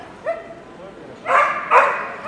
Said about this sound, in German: Der Hund fordert Aufmerksamkeit.